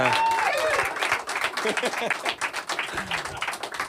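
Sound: audience clapping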